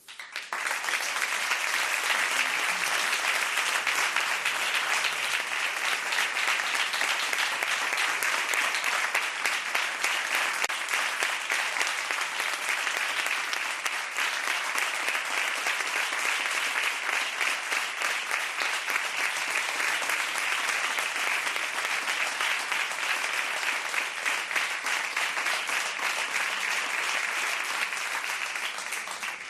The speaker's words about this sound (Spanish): Muchas gracias. Más que merecido este aplauso.